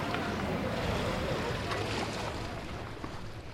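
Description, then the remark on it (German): Steady splashing and sloshing of lake water at a 1 August swimming event at Merlischachen, Switzerland, with a continuous rushing outdoor wash and occasional sharper splashes as someone moves around in the water. “Und ab geht's ins Festzelt oder nochmal zurück in See, wo vor sich einer plätschert.”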